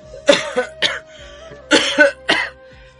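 An old man, sitting hunched on a plank bed, coughs hoarsely in two rough clusters of about three harsh, raspy hacks each, fairly loud, with a short pause between the bursts.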